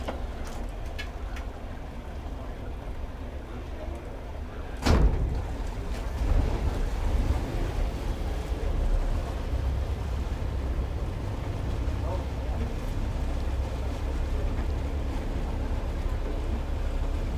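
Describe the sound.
A tour boat moving on open water, its low engine drone and rushing water running steadily throughout, with wind buffeting the mic and a single sharp knock early on; faint, indistinct voices may sit beneath the rumble.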